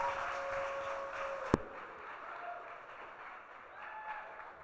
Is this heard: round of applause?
yes